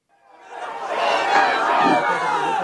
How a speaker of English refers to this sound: Thousands crowd in a field beside a mosque in Kupwara. It's a sprawling town that nearly licks the line that divides Indian-administered Kashmir from the Pakistani-held parts of the territory.